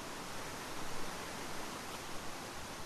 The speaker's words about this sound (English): The river noise is like a static, no burbling music, just a thrash of white noise that stretches out like a tablecloth beside the road.